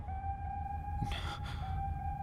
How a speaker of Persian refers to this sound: اثر نبود، هنوز صدای آژیر میاد. باید راه بیافتیم.